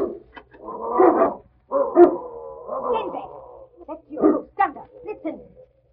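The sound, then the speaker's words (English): Two mastiffs bark and growl in a loud, harmonic series of bursts, about six over a few seconds, mixed with some whining yips between them. “She got the door with dogs. Mastiffs. Two of them.”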